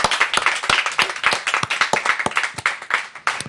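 Audience applause: dense, steady clapping from many hands, a bright crackling wash with sharp individual claps poking through, sustained at moderate loudness for a few seconds without speech.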